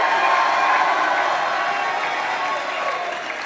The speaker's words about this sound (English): And if you believe that with me tonight and you make that decision, go ahead and do what you're already doing. Give the Lord a mighty hand clap and shout.